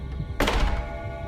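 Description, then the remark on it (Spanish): A storeroom door is pulled shut by its knob with one solid thud that rings briefly and fades into a low, quiet hum. No one speaks. “Antes de que terminaran de sonar las 12 campanadas, la persona se acercó tanto a la bodega que le quedó a la mano el pomo de la puerta, lo tomó con su horrible mano y la jaló hasta cerrarla.”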